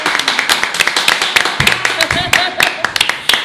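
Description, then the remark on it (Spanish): A crowd claps steadily, dense overlapping handclaps forming a sharp, crackling wash of applause, with a brief vocal shout or cheer rising through the middle, welcoming a live music performance. “Un aplauso para él.”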